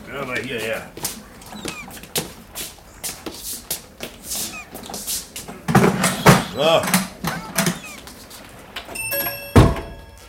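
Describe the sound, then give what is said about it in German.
A heavy sea chest is carried in from outside the door with scraping, shuffling and knocks, then set down with a loud, solid thunk near the end. Brief muffled voices come and go in the background. “Vielleicht hilft mir der Junge eben meine Seekiste reintragen.”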